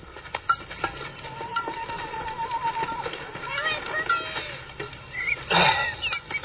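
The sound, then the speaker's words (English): A bird whistles and chirps outdoors in a series of thin, wavering calls. Scattered rustling and a burst of noise break in toward the end. “Listen to that bird.”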